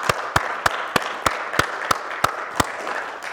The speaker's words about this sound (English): And if all the moms here would stand up just for a second, and all the moms stand up, and if we can give them a round of applause and appreciation.